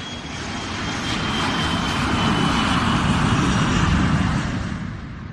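A jet airplane's engine roars steadily and loudly throughout, with a thin high turbine whine riding over a dense, rumbling wash of noise. No voices.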